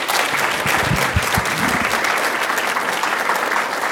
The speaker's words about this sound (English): A great round of applause, please, from the whole audience.